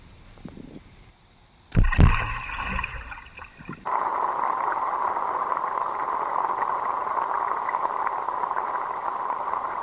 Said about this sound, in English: From sunrise to sunset, it's solar-powered radio from the bottom of the Wave Farm pond. Today on radio, we're going to tune in the waves from the pond. First, let's throw this large rock in and listen to the waves.